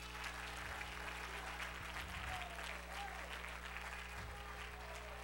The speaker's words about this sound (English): Everybody say, not by might, nor by power, but by my spirit, saith the Lord. Clap your hands unto him.